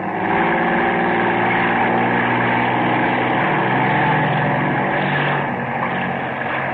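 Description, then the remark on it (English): A motorboat engine drones steadily and loudly throughout, a constant low rumble with a buzzing harmonic whine, uninterrupted, with no voices. “Well, I guess we better be getting back to mooring.”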